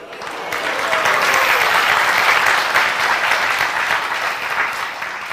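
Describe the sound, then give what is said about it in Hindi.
Sustained applause from a large audience, steady and loud throughout with dense overlapping claps, swelling slightly in the middle before easing a little toward the end. “तो तालियां गंगा के लिए, नहीं तो हम तो हैं नाले।”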